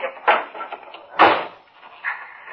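door opening and closing

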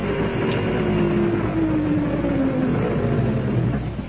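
car engine approaching

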